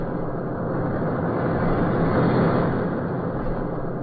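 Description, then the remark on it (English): A car with a man held in its back seat pulls away from the front of the Central Building, its engine rumbling and hissing steadily, growing slightly louder midway and then easing off. There are no voices. “car, pull away from the front of the Central Building.”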